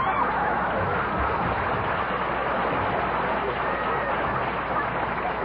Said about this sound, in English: Please. Don't applaud, please. It brings the dust down from the balcony.